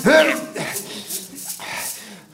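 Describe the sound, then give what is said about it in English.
A single sharp, loud bark from a hound in a graveyard opens the moment, then gives way to scattered rustling and scuffling noises with no further barks or howls. “Out of the graveyard and into some kind of park, leaving the howls behind.”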